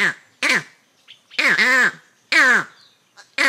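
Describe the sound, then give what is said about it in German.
A green monkey's alarm call warning others of a leopard: about six loud, harsh, barking calls in quick irregular bursts, with short silent gaps between them and no talking. “Und das ist der Alarmruf: Vorsicht, Leopard!”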